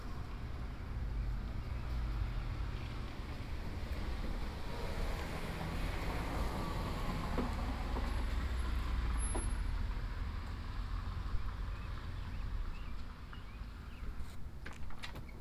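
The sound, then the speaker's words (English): A car passes by outside, a broad low rumble of engine and tire noise that swells gently toward the middle and fades, with steady wind-like hiss and no voices. “Whoops, here comes another car.”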